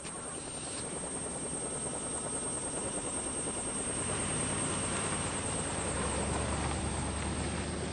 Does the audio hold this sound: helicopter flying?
yes